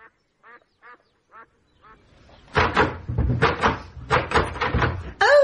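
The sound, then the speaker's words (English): A few short squeaky chirps, then a door that does not open is rattled and shoved repeatedly in loud, clattering bursts for several seconds, ending on a brief squeak. “Not that door. It doesn't open.”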